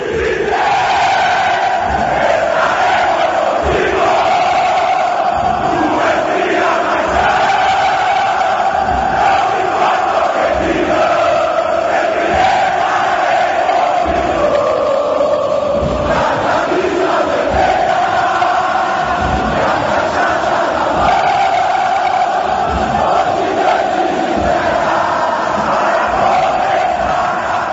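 A large crowd of football supporters chants a song in unison, a dense, loud, continuous mass of voices singing a rhythmic tune, as if recorded from within the stands.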